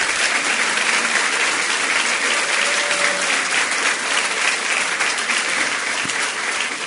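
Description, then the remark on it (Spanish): Sustained applause from an audience in Municipio B of Montevideo, between the Ciudad Vieja and the centre, greeting the municipal mayor, architect Silvana Pizano: a dense, even clatter of many hands clapping at steady loudness for several seconds, with no voices standing out. “que estamos en el límite exacto entre la Ciudad Vieja y el centro, en el municipio B de Montevideo, y está presente aquí la alcaldesa del municipio, arquitecta Silvana Pizano, que aplaudimos.”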